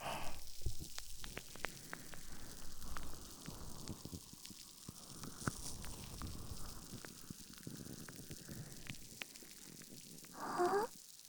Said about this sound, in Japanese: ほら、ちょっとシュワシュワするだけで泡がモコモコしてきたでしょ。 やればやるほどクリーミーな泡が耳を覆い尽くしてくれますよ。